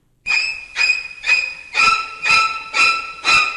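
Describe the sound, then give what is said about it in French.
Seven sharp, shrieking violin stabs repeat in a steady rhythm, each a piercing high-pitched screech that rises slightly in intensity: the shower scene strings from Alfred Hitchcock's 1960s horror film Psycho. No voices. “mais ces violons-là, aujourd'hui, on les utilise à n'importe quelle sauce”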